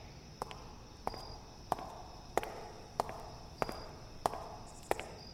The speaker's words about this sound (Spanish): Entonces, escuchó unas pisadas que ascendían por la traversal.